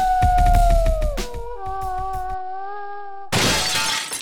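A wolf gives a long, wavering howl that slides downward and holds steady as it shoots up like a rocket and breaks through a roof, with crashing, shattering impacts hitting rapidly at first and then a burst of loud rubble-like noise ending it.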